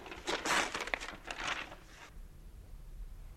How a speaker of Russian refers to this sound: Так, друзья мои, почты у нас много, а вот этот пакет давайте вскроем сейчас. Давайте. Любопытно.